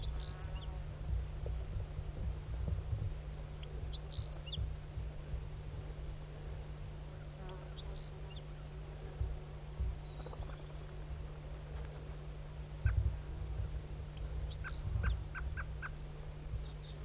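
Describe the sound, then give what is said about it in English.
Wild turkeys gobble repeatedly in rattling bursts over a steady low hum and hiss, the wild bird a lone all-red male, with several calls overlapping and some sharper, louder gobbles near the end. “Is it recording the wild bird again?”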